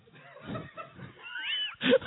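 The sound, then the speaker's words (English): A person imitates a pig snoring with a short series of rough, nasal snorts and grunts, close and fairly loud, ending in a sharper squealing snort. “Was that supposed to be like he's tired snoring? I don't know. Like a pig snoring.”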